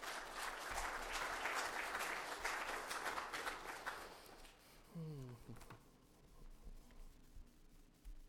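A crowd at a meeting applauds with dense, steady clapping for about four seconds, then the applause thins and fades as a voice begins speaking quietly.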